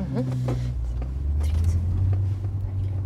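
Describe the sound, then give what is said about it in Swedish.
Low, steady engine rumble of a car rolling by, the drone shifting in pitch partway through and swelling slightly before easing off, with a faint murmur of voices underneath. “Och av att det kommer bilar hela tiden som vill kanske se.”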